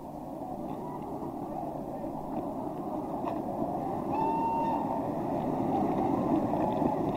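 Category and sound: vehicle, train running on rails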